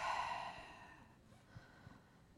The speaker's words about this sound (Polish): Wdech.